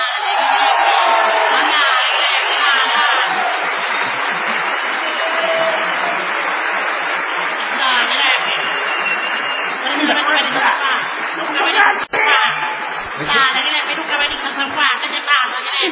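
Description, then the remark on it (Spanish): A loud, sustained audience ovation for an artist at a show in San Juan: steady applause mixed with cheering, whoops and shouted voices, holding at full strength throughout with only a brief dip partway through. “Esta tremenda ovación solo es sombra de la sombra de la que va a recibir el artista antes llamado ….”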